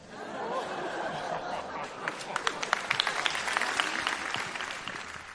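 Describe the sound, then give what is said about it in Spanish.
An audience bursts into applause, dense clapping building over a murmur of crowd chatter and a few laughs, with sharp individual claps standing out as it swells. “Bueno, un gran aplauso.”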